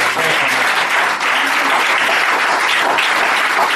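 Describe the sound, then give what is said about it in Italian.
Steady, dense applause from an audience at an evening presentation, clapping for Stefano Racci, fills the whole stretch, a loud wash of many hands clapping at once with no pauses and no clear voices above it. “Grazie a Stefano Racci, chiedo un applauso.”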